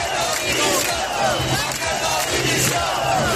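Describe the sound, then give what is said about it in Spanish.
Hundreds of residents protesting in Zamora against the regional government chant and shout in unison, a loud, steady wall of voices with rhythmic rises, demanding Alfonso Fernández Mañueco's resignation. “Gritan Mañueco dimisión”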